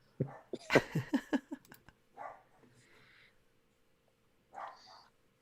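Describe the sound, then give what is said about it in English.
A quick flurry of sharp barks from dogs, then two separate, softer yelping barks after short pauses, with a low background hum throughout. “And the dogs chime in and say Merry Christmas as well.”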